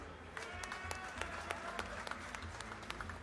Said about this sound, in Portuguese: Salva de palmas.